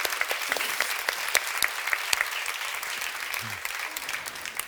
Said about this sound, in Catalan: Un aplaudiment per tu